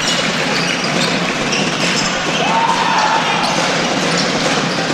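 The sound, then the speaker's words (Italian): A basketball is dribbled on a court by a player keeping his dribble to avoid a travelling violation, its bounces half-buried in the steady roar of a crowded arena, with a brief sneaker squeak rising in the middle. “Qui lo Stato la recupera e con un numero tiene il palleggio per evitare l'infrazione di passi.”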